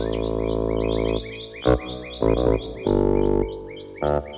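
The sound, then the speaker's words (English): Birds chirp in quick, steady repeated tweets throughout, partly buried under a loud, buzzing, distorted drone that stops and restarts in short bursts. “Birds in the mouse hole?”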